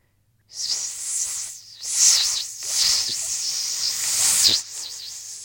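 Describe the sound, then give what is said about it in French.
A rattlesnake's dry, hissing rattle starts abruptly and buzzes continuously for about five seconds, fairly loud, swelling and easing in intensity without pause. “Le serpent à sonnette.”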